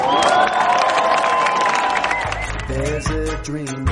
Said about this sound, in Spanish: Me dejáis y os pido, por favor, que para mandar un aplauso a cada miembro de los ….